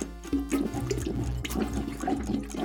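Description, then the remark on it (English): A toilet flushes, a steady rushing gurgle of water swirling down the bowl for a few seconds with no voices. “Flush it, flush it, flush it like that.”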